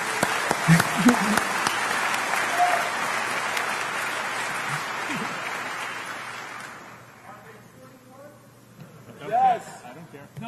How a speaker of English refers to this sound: These guys are all first time. They have to. Let's give them all a big round of applause for their first time.